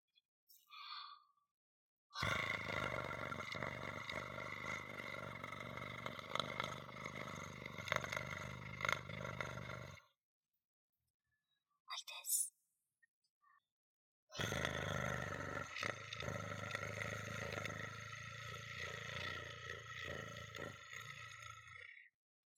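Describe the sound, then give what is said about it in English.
A person imitates a cat's purr with two long, steady, rumbling bursts separated by a short pause, fairly loud, with no talking. “What if I try to purr?”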